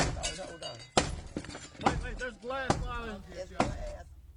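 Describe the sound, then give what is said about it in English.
A series of about five heavy strikes, roughly a second apart, with glass shattering and clinking as city emergency services force a door, while voices talk and shout in between. “Wait, there's glass.”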